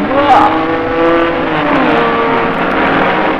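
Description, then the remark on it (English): Racing cars roar and rev loudly at a circuit, engine pitches sweeping up and down as several machines blast past in a continuous, powerful drone. “listen to that power.”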